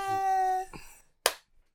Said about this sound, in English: You don't hear a splat. I was just clapping.